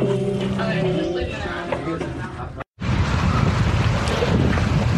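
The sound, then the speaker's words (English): Strong wind roars and buffets the microphone outdoors by a church, a loud continuous rush with low rumbling gusts, briefly cut off by a moment of silence before blasting back just as hard. “Crazy windy.”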